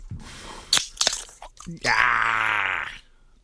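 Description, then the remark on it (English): A drink can, a 'thunder' taken from the fridge, cracks open with a couple of sharp, crunchy pops, followed by a long, loud, satisfied vocal groan lasting about a second. “I'm going to the fridge. Hold on. Cracking a thunder.”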